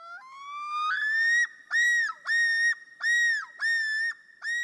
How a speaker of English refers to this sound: Does this call of the common loon bring to mind a summer visit to northern lakes with sunny blue skies?